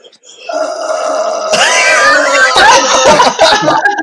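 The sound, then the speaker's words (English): A voice imitates a man's snore with held breath: a tight, strained, humming tone that swells into rougher, louder grunting and sputtering, lasting about four seconds without any words. “that's actually quite a cute little snore.”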